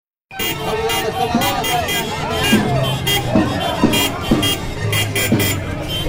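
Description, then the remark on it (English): A line of cars at an election rally comes around the corner on Charles Darwin Avenue at sunset, honking repeatedly with long sustained horn blasts while waving blue flags, over rumbling traffic and a noisy crowd of voices. “this line of cars comes around the corner, honking, endless honking, and they're waving flags, blue flags.”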